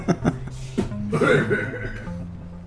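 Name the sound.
loud cough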